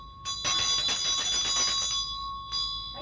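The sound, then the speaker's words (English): A small hand bell rings rapidly for about two seconds, bright metallic jangling with sustained ringing tones, then a brief final shake; fairly loud, with no talking. The bell is rung to disperse spirit energy. “why don't you go grab a bell and ring it and we'll see the difference”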